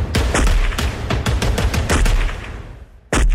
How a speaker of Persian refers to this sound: مرد راننده بعد از توقف خودرو پیاده شد و با سلاح همراهش شروع کرد به تیراندازی به سوی نیروهای پلیس.